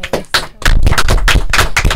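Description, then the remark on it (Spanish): A crowd claps in loud, dense applause welcoming a guest, a council candidate: sharp, crackling hand claps that start a little scattered, then swell into a steady, continuous roar of clapping. No voices are heard. “a quien vamos a recibir con un fuerte aplauso.”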